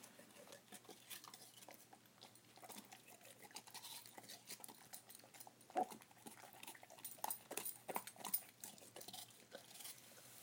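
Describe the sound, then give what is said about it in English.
A dog, Zappa, chews a little slice cut from an apple, making a string of irregular, crisp crunching and smacking sounds at a quiet level, with a few louder bites partway through and no talking. “So I just cut off a little slice and gave it to him.”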